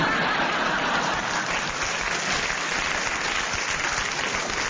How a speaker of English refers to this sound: I don't know why the audience clapped, because...